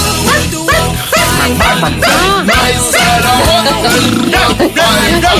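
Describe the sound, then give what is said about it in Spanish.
A voice lets out rhythmic, bark-like yelps in place of a song's English lyrics, imitating a dog barking while singing along over loud, busy music, the short cries repeating steadily throughout. “Pues yo, es un temazo que además yo la canto dando ladridos, porque no me sé la letra, porque es en inglés, pero me sale dar gritos de ladridos de perro.”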